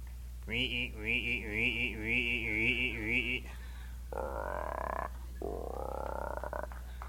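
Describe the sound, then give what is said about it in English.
A person imitates frogs croaking: a long, rhythmically wavering croak lasting about three seconds, then two shorter rising croaks. Loud, with no other sounds. “Frogs. Frog.”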